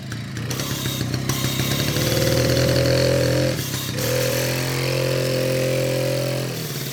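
A loud motor engine, a decompressor, drones steadily, its low rumbling tone holding for several seconds, dipping briefly, then resuming with a harsh, grinding hum.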